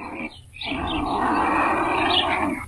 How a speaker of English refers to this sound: What creature, a bird creature, what makes that sound? I was going to guess a condor. Were you really? Yeah. Well, congratulations. You are absolutely correct.